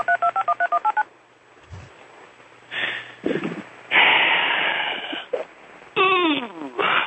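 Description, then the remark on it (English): A phone number is dialed: a quick run of about eight or nine short, evenly spaced touch-tone beeps, followed by scratchy noises, shuffling and muffled, moaning sounds. “I'll make another call here.”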